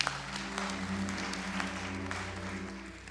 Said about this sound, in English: Give a clap of hand to the Lord.